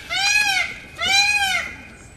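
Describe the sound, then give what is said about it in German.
A peacock, hidden from view and not fanning its tail, screams twice in quick succession, each call a loud, high, nasal wail lasting under a second and slightly arching in pitch, with no voices present. “Ich höre es hier nur schreien, aber ich sehe den Vogel nicht, der da schreit.”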